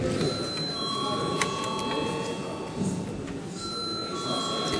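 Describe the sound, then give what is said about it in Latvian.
A steady electric bell rings continuously for several seconds in a parliament chamber, sounded for a recess in the reading of a bill, bright and insistent, over a low murmur of room noise. “Lūdzu zvanu.”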